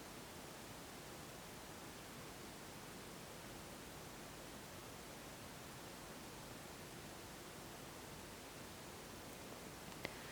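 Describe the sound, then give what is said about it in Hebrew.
Steady, even rain hiss fills the whole stretch, a soft continuous wash with no distinct drops or pauses, heard alone without any voices. “ואם אני שמה לב למגע של האוזן עם צליל, אז איך זה מרגיש לשמוע את הגשם?”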